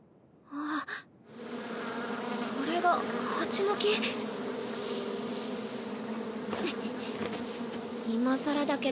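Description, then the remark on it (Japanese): A steady, dense buzzing of many bees around a bee tree at the center of a forest fills the scene, a continuous droning swarm that holds at an even level, with a brief breathy sound near the start. “そうだよ、ヘレンさんがこの森の中心部に蜂の木があるって、行けば一目でわかるって言ってたけど。”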